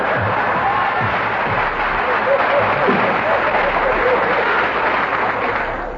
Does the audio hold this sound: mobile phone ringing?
no